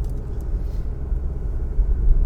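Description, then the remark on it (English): Steady low rumble from inside a moving car, a continuous engine and road drone filling the cabin at moderate volume, with no voices. “We drive around in unfamiliar cars, not looking where we're going, running down pedestrians.”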